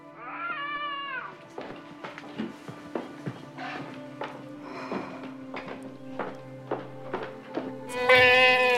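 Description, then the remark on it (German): A young goat bleats, one wavering cry at the start and a louder, shriller one at the end, with scattered knocks and rustling in between. “Ja, kleine Ziegen sind toll.”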